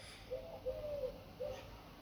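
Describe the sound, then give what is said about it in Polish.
Soft, low cooing from pigeons somewhere in the distance, from a nearby pigeon breeding loft, three or four brief murmuring calls over a quiet outdoor background. “Z oddali słychać gruchoczące gołębie, bo niedaleko znajduje się hodowla tych ptaków.”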